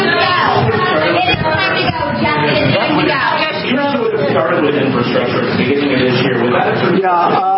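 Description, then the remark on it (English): A crowd of people yells continuously, many loud overlapping voices merging into a dense, unbroken roar with no distinct words, holding steady for several seconds. “They keep yelling.”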